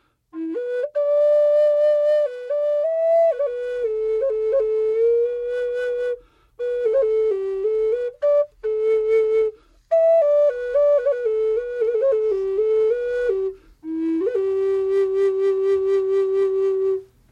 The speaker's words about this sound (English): The one I brought today is a bass flute. It's one of my favorite keys. I love the sound of this. It's a little deeper sounding flute.